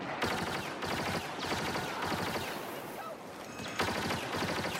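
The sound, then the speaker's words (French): Relentless rapid gunfire from a video game fills the whole stretch, dense and loud, with a few heavier booming grenade explosions punching through the chatter of shots. “Attention, grenade!”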